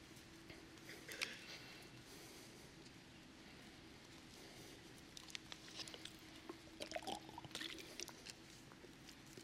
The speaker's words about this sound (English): I did not realize you could hear me drinking water. Sorry. It's the first time I realized that would go all the way through the sanctuary.